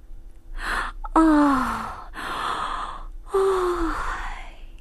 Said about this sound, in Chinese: 打了个大大的哈欠，他费了好大劲儿，强睁着眼睛。